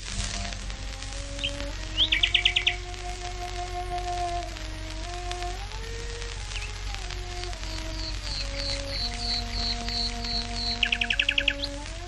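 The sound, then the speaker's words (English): A nightingale in a Surrey garden sings two bursts of rapid, repeated high chirping trills, one early and one near the end, over a slow, sustained low cello melody with long held notes, broadcast live by the BBC just before midnight. “As a wildlife sound recordist, the phrasing and perspective of this nightingale has always intrigued me.”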